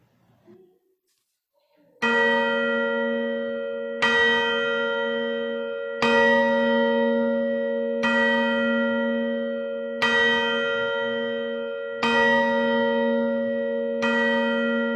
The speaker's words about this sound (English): The clock struck midnight.